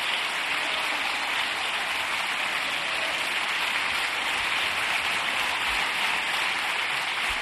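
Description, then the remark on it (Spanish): A standing ovation in parliament: Pedro Sánchez and the rest of the socialist benches on their feet applauding Óscar Puente's words. Sustained, dense applause, a steady wash of many hands clapping at an even loudness throughout, with no voices standing out. “Pedro Sánchez, que se pone en este momento de pie, aplaudiendo las palabras de Óscar Puente, también el resto de miembros de la bancada socialista, de pie, aplaudiendo a Óscar Puente,”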